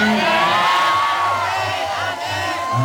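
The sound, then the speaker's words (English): A community crowd cheers and shouts together as people accused of black magic, wrapped in white cloth, complete an oath swearing their innocence; a dense, loud wash of many voices with whoops rising above it, sustained throughout without a break. “As they complete the oath, there are cheers from the crowd.”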